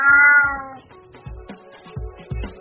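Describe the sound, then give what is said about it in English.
A cat lets out one loud, drawn-out meow, followed by softer rhythmic thumping sounds and faint low murmurs for the rest of the moment. “And no cat was harmed in the recording of this program. Isn't that right”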